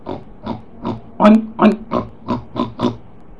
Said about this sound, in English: A pig grunts or oinks.